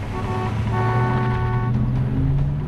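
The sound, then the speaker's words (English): Vehicle engines roar steadily as Noah's massive pickup truck and Claire's car drone along a multi-lane road together, swerving and dangerously switching lanes, with a constant road rumble and shifting engine tones, no voices. “Following her path, Noah's massive pickup dangerously switches lanes. A couple of car lengths ahead, Claire's car swerves into the lane closest to the central median.”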